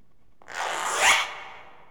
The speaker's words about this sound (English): Zipper.